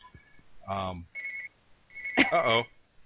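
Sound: bell ringing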